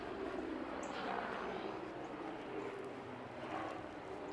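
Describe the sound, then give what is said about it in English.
A steady, broad rumble of an airplane passing overhead, droning continuously without breaks, with no voices. “Does the planes and helicopters that fly overhead bother you?”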